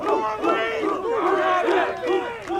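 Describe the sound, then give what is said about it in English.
A crowd of girls screams and cheers at a high school football game on game day as the Comets players sprint through their line onto the field to meet opponents from a small high school in eastern Montana. A dense, continuous wash of high-pitched shrieks and yells rising and falling, loud throughout with no talking. “They break out of their huddle, sprinting through a line of screaming girls and onto the field to meet their opponents from a small high school in eastern Montana.”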